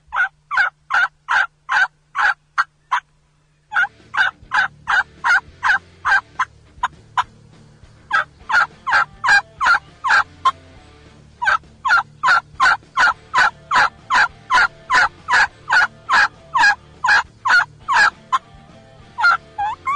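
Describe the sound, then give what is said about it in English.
Long runs of steady, evenly spaced turkey gobbler yelps played on a mouth call, the yelps lengthened and the rhythm slowed, loud, repeating in several series separated by short pauses, with no talking. “And with any of the mouth calls, then you lengthen the yelp, slow your rhythm down a little bit, and it becomes a gobbler yelp.”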